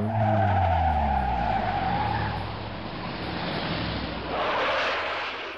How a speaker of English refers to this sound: hopped into a car and tore across the dark Atlanta streets.